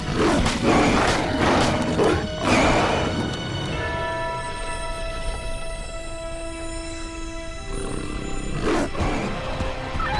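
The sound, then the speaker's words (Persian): A werewolf's loud, harsh monstrous roars burst out at the start and again near the end, with a sustained, strained tonal wail in between, like a snarling beast growling. “یه گرگینه؟ دقیقا اینجا چه خبره؟”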